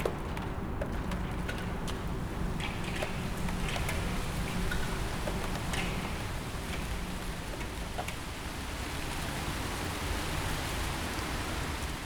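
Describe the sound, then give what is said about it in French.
Steady rain patters on the waterlogged tarmac streets of a city, a dense, even hiss broken by scattered sharper drop ticks, continuous throughout, with no voices. “Les gouttes font sonner la matière.”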